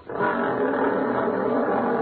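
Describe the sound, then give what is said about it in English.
A lion's roar rises fast and holds steady for about two seconds, loud, a rough, sustained growling bellow with no voices around it. “Well, you're the ones they're roaring for over at MGM.”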